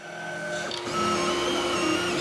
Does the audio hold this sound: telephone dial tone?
no